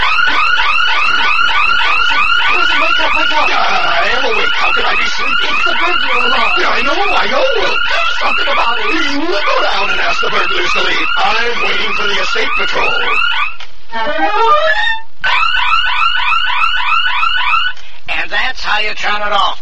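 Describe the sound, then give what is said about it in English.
A home burglar alarm blares loud, a continuous warbling electronic wail that cuts out briefly twice near the end before resuming. “Your alarm system has been tested by Slicky Boys of Poussin Incorporated and has passed.”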